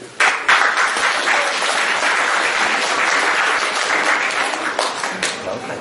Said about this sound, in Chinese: 感谢朋友们的热情掌声。哎，啊，今天大下午的， 是 来了这么些个热情的朋友， 那多好啊！